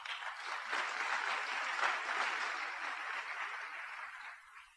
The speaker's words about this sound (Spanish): un fuerte aplauso mi amigo.